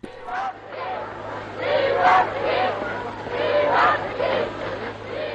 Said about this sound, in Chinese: 戴高乐将军率领自由法国部队进入巴黎市中心时，法国人民热烈欢呼。